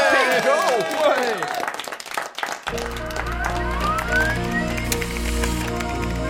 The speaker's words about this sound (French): on applaudit tout le monde.